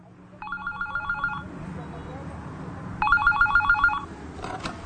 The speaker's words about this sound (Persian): تلفن زنگ میزنه، گوشی رو بر میداره.